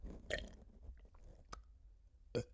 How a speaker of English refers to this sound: Oh, a burp from